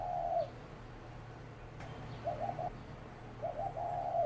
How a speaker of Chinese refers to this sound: 小鸽子说话，咕咕，咕咕。